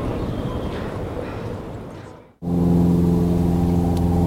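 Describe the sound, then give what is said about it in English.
A rough, rumbling aeroplane engine drone over the Tlukluxan wetland at 7 o'clock in the evening fades down to near silence, then a steady, loud, low droning hum with a strong tonal pitch cuts in abruptly and holds. “After this drone of an aeroplane fades away, the American Robin's evening song begins to be heard.”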